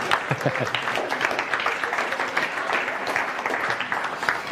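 A group claps steadily for several seconds, a dense, even patter of many hands close by, with a few murmured voices mixed in underneath.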